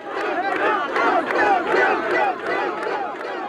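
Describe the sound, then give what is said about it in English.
A large crowd cheers and shouts together at David Duke's election night party, many voices overlapping in a loud, sustained roar with rhythmic surges, like rally-style chanting filling a room. “That's the crowd at Duke's election night party, recorded by Plater Robinson.”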